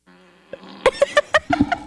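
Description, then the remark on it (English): A wet, sputtering fart sound effect played on request by an Alexa smart speaker: a low buzzy start breaks into a rapid series of loud, squelchy bursts, clear with no talking. “That was a wet one. That was a pushing hard one.”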